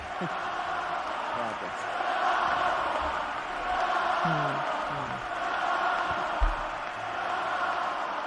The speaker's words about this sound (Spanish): Hablábamos de Nadal y todavía estamos con los gritos de la afición a Rafa.